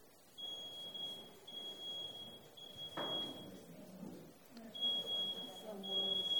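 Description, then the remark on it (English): A smoke alarm emits a high, piercing tone in long repeated beeps, moderately faint and steady, over murmuring voices and room noise. “Sounds like a smoke alarm.”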